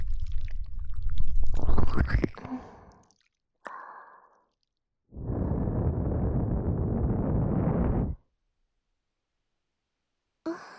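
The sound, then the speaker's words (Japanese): Wet squelching right at the ear as seawater is being cleared from inside the ear, with a couple of short squishy bursts followed by a longer steady stretch of muffled, gooey rubbing, then quiet. “動くと危ないわよ。ぐっちゅぐっちゅぐっちゅぐっちゅ。”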